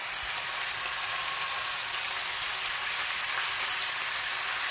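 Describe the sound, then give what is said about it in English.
Fish fries in its own separate hot pan, a dense, steady crackling hiss that stays even throughout, with no voices. “Right, so now I'm going to fry the fish.”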